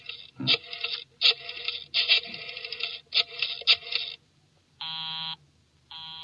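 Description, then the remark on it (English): Harsh, crackly rattling bursts give way to a telephone busy signal: a steady, buzzy tone that switches on and off in even pulses, with no voices. “Busy? He's probably left the phone off the hook, Inspector.”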